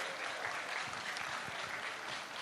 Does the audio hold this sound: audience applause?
yes